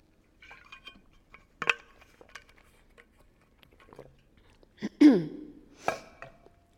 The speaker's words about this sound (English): I'm going to take a little quick glass drink of water.